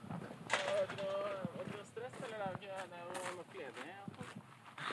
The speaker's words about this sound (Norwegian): Ja, var det ikke det? Bra klask.